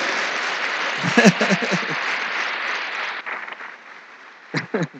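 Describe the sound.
A crowd at a sermon claps steadily in applause to the Lord to confirm an amen, the applause fading after a few seconds while a man's voice breaks in over the dying clapping.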